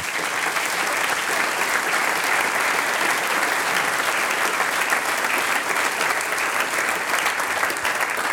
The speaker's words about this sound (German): Mit einem Applaus für euch.